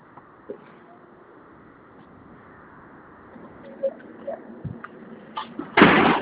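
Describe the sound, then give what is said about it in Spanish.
Faint room noise and a few small knocks and rattles, then a door is shut with a loud thud near the end. “Cierro la puerta, ¿verdad?”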